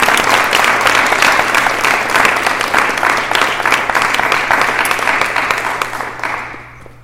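Sustained applause from a sizable crowd welcoming guests, a dense wash of many hands clapping steadily for several seconds before gradually tapering off at the end.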